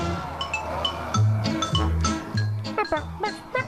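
The quirky closing theme of the 1978 film Dawn of the Dead, also used as the Robot Chicken theme, plays on its own, with bouncing low bass notes under bright, stepping melodic tones, steady and fairly loud.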